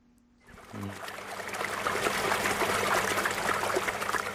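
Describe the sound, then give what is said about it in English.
Fresh spring water trickles and burbles steadily at New Harmony Farm, north of Johannesburg, South Africa, in the shadow of the Magaliesberg Mountains: a continuous bubbling flow that rises in after a brief quiet start and carries on without any voices. “Fresh spring water nourishes New Harmony Farm north of Johannesburg in the shadow of the Magaliesberg Mountains.”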